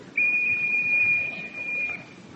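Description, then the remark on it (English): A single steady, high-pitched tone of a whistle blown by a doctor during a hearing test, held for about two seconds, clear, with a faint low background hiss and no talking. “Now we shall try the whistle from this side.”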